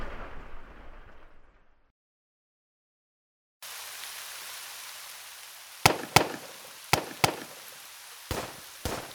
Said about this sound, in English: Diane, those aren't pings. That's pistol fire.